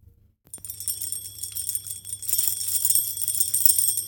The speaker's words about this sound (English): There was a bell beside the gate, and Dorothy pushed the button and heard a silvery tinkle sound within